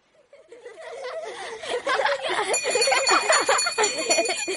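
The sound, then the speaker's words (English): A school bell at a school by a bay rings with a bright, sustained metallic tone, calling the children in from play, over a bustle of children's chatter and giggling, growing louder as the ringing sets in. “This is the bell on the school in the bay, ringing the children in from their play.”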